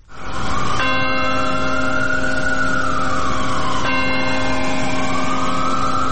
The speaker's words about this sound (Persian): بامداد دوشنبه به وقت محلی و در 22مین سالگرد حملات 11 سپتامبر ناقوس امید در مقابل کلیسای پل مقدس در نیویورک به صدا درآمد تا خاطره کشته شدگان این حملات گرامی داشته شود.